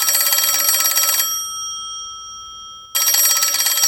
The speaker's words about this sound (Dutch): Dan gaat de telefoon.